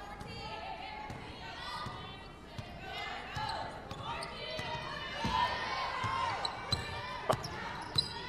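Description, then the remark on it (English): A basketball bounces repeatedly on a hardwood court in a steady dribbling rhythm as a player drives along the near side baseline in the second quarter of a game against Mountain Home, with sharper thuds near the end, over gym crowd noise and a voice talking in the background. “Husky puts it on the deck, drives near side baseline.”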